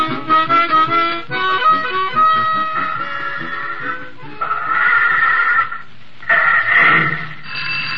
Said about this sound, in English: Hold it till I get this phone.